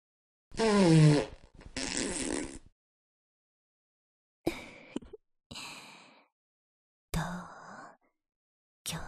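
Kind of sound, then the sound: human body sound, fart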